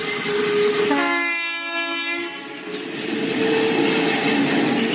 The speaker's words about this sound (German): Da die elektrische Eisenbahn mit ihren 760 mm Spurweite und den blau- bzw. rot-weißen Wagen eher an eine Straßenbahn erinnert, wird sie von den Einheimischen auch so genannt, also Straßenbahn bzw. auf Slowakisch Električka.